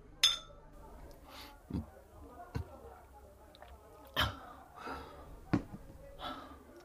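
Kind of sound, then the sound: household object, glasses clinking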